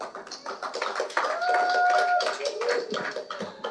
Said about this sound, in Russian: Давайте его с теплыми аплодисментами.